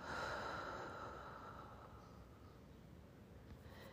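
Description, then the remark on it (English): A slow, soft breath out during a guided breathing meditation, a gentle airy whoosh that starts strongest and gradually fades over a few seconds, quiet with no talking. “Breathing out, I release tension.”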